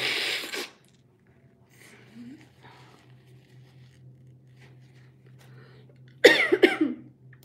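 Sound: coughing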